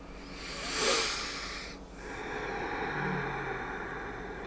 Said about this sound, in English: So many of us right now, this moment, are breathing together.